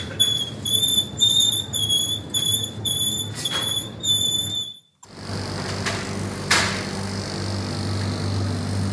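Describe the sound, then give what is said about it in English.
A shopping trolley wheel squeals in a fast, regular rhythm of high-pitched chirps over a low rumble, then cuts off and gives way to the steady low hum and hiss of a running fridge, both recorded in a Walmart store in the United States. “That first one was a wheel from a trolley. That's a lovely fridge we found.”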